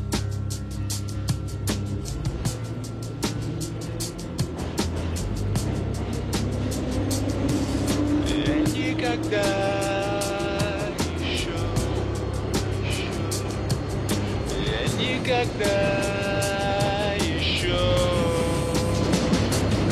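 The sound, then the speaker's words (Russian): A subway train runs between stations toward Kantemirovskaya station with a constant loud rumble and rattling clatter, while the electric motors' whine rises and falls in pitch as it travels. “Ходил на этой станции метро, хотя меня где только не катал подземного локомотива Крот.”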